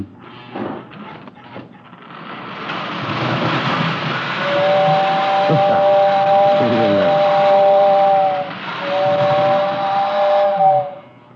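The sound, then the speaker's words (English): A steam locomotive hisses steadily while its whistle sounds two long, mid-pitched blasts with a short break between, after a few chuffing bursts at the start. No one speaks. “Have to keep up our maintenance on the rolling stock.”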